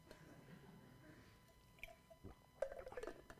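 Someone quietly sips a drink of water, a few soft wet slurps and small mouth clicks gathering into a brief cluster near the end, with no talking.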